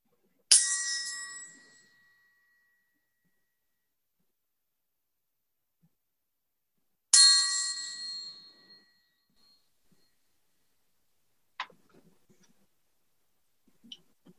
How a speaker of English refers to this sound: And we'll have a moment of silent meditation with the chime in one moment.